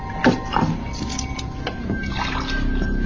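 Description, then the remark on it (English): Water is poured into a glass, offered as a drink by General Zavala, a steady trickling splash lasting a few seconds with a couple of brief clinks near the start, and no one speaking. “A drink of water?”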